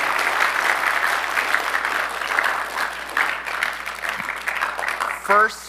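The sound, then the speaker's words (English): A crowd claps steadily in a dense, continuous wash of applause that lasts the whole clip, with a brief voiced whoop rising over it near the end, applauding students who earned attendance awards at a school awards ceremony. “All right, let's give these a big round of applause for their hard work.”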